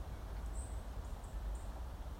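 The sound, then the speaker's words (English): A few faint, high bird chirps sound, short and scattered, over a steady low outdoor rumble, with no voices, among old ash and beech trees in a wood where chiff-chaffs, blackbirds, wrens and robins sing. “The trees are also alive with birdsong. I've heard a chiff-chaff, numerous blackbirds, wrens, robins.”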